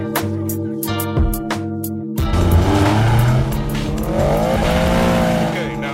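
A car engine starts, roars and revs as the vehicle launches with the handbrake released and the pedal floored, with a sustained rising squeal of tires over a dense, loud mix; a brief percussive rhythm opens before the takeoff.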